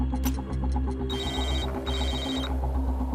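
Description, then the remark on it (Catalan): A mobile phone lying on the ground in the middle of a sidewalk, near a victim, rings insistently in two long repeated bursts of bright electronic trilling over a steady low background hum. “Està allà, a prop de la víctima, i sona el telèfon molt insistentment.”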